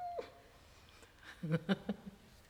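A human voice imitates a cat's meow with a few short, tonal, mid-pitched bursts, following a faint whistle-like tone at the start.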